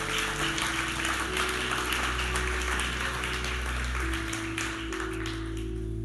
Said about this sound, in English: Hallelujah. Give the Lord a hand clap of praise this morning.